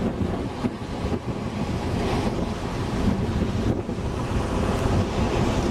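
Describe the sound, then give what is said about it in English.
Strong ocean surf rolls and crashes continuously onto the shore, a loud, steady roar of breaking waves mixed with gusty wind buffeting the microphone, with no voices. “The waves are still coming in pretty strong.”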